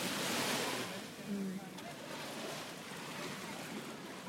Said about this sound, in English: Just capture some more waves. Some ambiance.